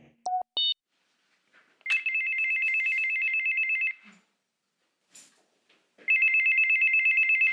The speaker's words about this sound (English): This first episode is all about the doorbell, the essential technology that serves as the entry point for both the American home and the brand new season.